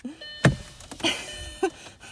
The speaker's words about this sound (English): just opened the door. Now I'm making all kinds of noise here.